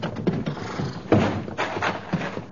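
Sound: horse galloping hooves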